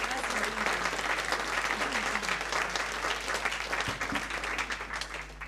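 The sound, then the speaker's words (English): An audience applauds steadily for several seconds, a dense, continuous patter of many hands clapping together that stays full and fairly loud throughout, with no one speaking over it. “Give her a clap.”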